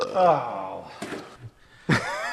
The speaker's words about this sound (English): Is this your homebrew ginger beer induced belching? No more than any other carbonated beverage.